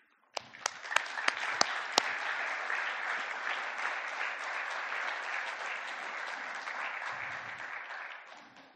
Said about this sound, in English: So surely as a church, we can show our appreciation to God by the clapping of our hands and saying, thank you, God, for showing up in between.